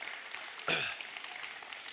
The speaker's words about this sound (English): Kids, youth, you're dismissed. Big round of applause. Y'all clap for the youth and the kids.